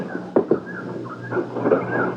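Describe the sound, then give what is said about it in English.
A door is unlatched and opened to step outside, with two quick clicks, followed by a soft creak, while faint birdsong and a low outdoor hum fill the background. “Let's step out the door.”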